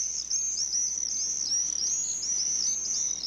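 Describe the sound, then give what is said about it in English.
Continuous shrill, high-pitched screeching from a group of common swifts, a dense wavering chorus that carries on steadily throughout with no talking. “They're really the sound of the summer, and you hear them screeching over your house, even if you live in a city like I did.”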